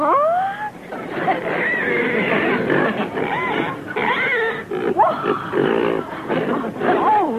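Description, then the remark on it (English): A live pig grunts and squeals continuously, with rising, whining squeals mixed among rough snorting grunts, while voices murmur faintly underneath. “A pig, a real live pig.”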